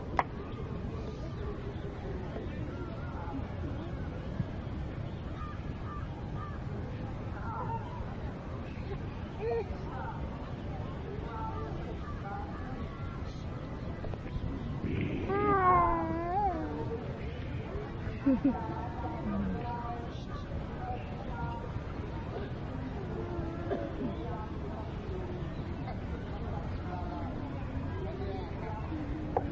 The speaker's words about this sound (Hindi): नीचे है बरसाना का गांव है। सभी एक मिनट सब लोग तो किसी भी प्रकार का आवाज मत कीजिए, जस्ट सुनिए ये बरसाना गांव के आवाज।